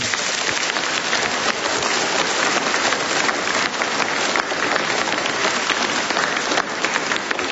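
Sustained applause from a large crowd at a gathering at a sanctuary, honouring the priests, nuns, carers, teachers and parents: a dense, steady wash of many hands clapping that stays loud and even throughout, with no voices standing out.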